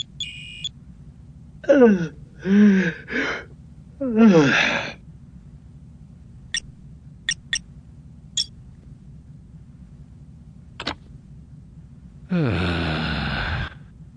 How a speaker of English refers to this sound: At 0100, however, he finally looked away from his work long enough to yawn.